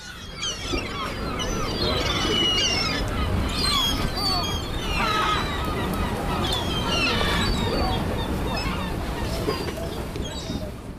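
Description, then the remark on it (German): A dense chorus of gulls calling over one another during migration season, with many overlapping squawks and high, wavering cries throughout, set against a steady low rumbling background. “Es ist Zugzeit und auf dem Weg in die nördliche Ostsee werden andere Möwen hier vorbeischauen.”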